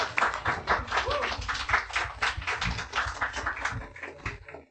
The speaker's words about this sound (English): So round of applause